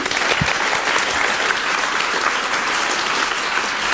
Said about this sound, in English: Oh yes, there's someone. Ooh. A random applause.